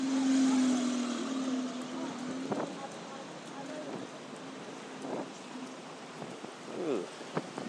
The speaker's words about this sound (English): Too soon. Rain coming now.